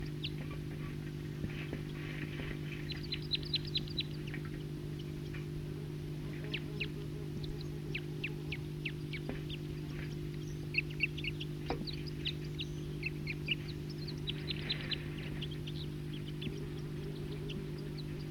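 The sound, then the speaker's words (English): Wild birds call in scattered bursts of chirps and short whistles, some overlapping, over a steady low mechanical hum, with no talking. “Start recording toops of a wild bird.”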